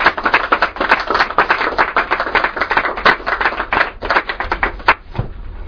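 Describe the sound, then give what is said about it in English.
An audience at Many Rivers applauds to welcome a poet to a reading of Renga linked verse, with dense, steady clapping for about five seconds before it thins out and fades at the end. No one speaks over it. “And so please join me in welcoming Pat Nolan to Many Rivers.”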